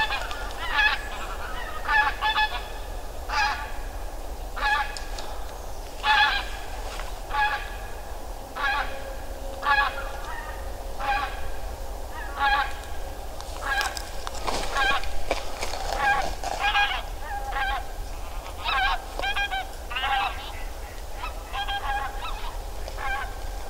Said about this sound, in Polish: gąski znowu lecą. Będą chciały współpracować, spróbujemy.